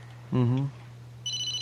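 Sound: telephone ringing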